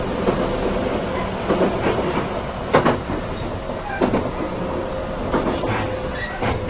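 A JR local train arriving at Wakayama Station, Japan, rolls steadily along the rails with a continuous rumble, punctuated by sharp metallic clacks and brief squeals at irregular intervals, heard from inside the carriage, with no talking.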